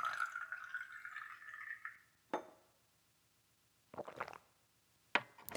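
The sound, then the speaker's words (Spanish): Water is poured steadily into a glass for about two seconds, its pitch rising as it fills, followed by a few scattered clinks and taps of glassware set down. “Pero bueno, el agua no me vendrá mal. Deje que se la sirva yo.”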